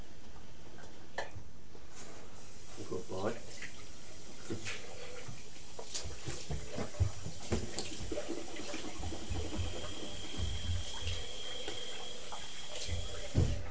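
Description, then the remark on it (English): A sink tap runs steadily as a boy rinses his mouth after brushing his teeth, a constant hiss of flowing water broken by small clicks and clatters, with no voices. “Can you rinse your mouth now? Some water on your hand and rinse your mouth.”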